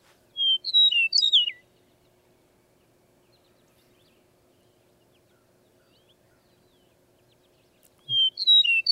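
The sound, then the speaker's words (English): A bird sings two clear, rolling whistled phrases, one at the start and another about seven seconds later, separated by silence and heard alone at moderate volume. “Nice, clear, kind of rolling whistle. Yeah, it's a pretty song.”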